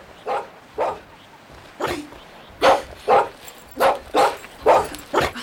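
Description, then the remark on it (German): A dog barks repeatedly, about nine sharp barks in an uneven rhythm, moderately loud, with no one speaking. “Kannst du nicht besser auf deinen Hund aufpassen?”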